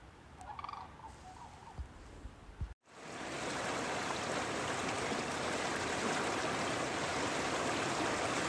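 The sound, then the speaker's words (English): A few turkey gobbles sound at the start, then an abrupt cut gives way to steady, loud rushing of flowing stream water, continuous to the end. “We're going to continue our way down this stretch of water.”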